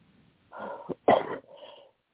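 A short fit of coughing: a rough lead-in, then one sharp, loud hack that trails off into a softer, wheezy breath. No one speaks.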